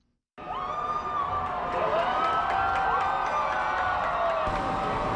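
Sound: parade crowd cheering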